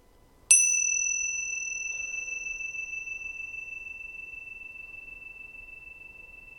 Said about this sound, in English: Do the same thing with the air conditioning that you're doing with the sound of the bell. Listening to the sound of the air conditioning moving through time. Let's use the bell again.